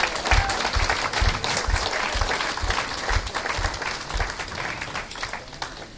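An audience at a church service applauds steadily for about six seconds as a clap offering to the Lord: dense, loud clapping from many hands, with a regular low thump pulsing beneath it at a quick, even beat.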